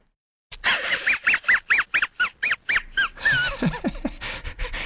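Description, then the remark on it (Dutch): The cartoon dog Mudley's wheezing laugh from a film or series: about ten quick, breathy, evenly spaced huffs, followed by a longer, raspier stretch of snickering with sliding tones. No one talks over it. “Is het een lachende hond?”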